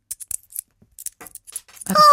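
Small euro coins tapped together several times, producing a quick run of light metallic clicks, then a louder strike that rings out with a bright, sustained metallic tone, with no talking.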